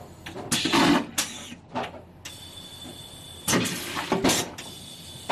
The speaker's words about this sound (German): Das wird nicht wie bei der normalen Toilette mit Wasser runtergespült, sondern dann saugt man das aus der Schüssel raus. Und das, was dann eingesaugt wird, wird dann in den Abwasserbehälter weiter gedrückt quasi.